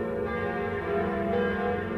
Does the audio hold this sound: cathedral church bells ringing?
yes